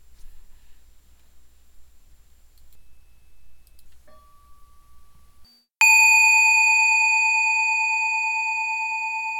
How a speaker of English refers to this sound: If you would like to do a longer sitting, there will be two more bells. One in 20 minutes, another in 45 minutes.